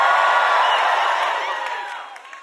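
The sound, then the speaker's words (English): A large crowd shouts and cheers together in a dense, sustained roar with scattered whoops, loud at first and gradually fading over a couple of seconds. “Everybody shout some kind of way. Just shout some kind of way.”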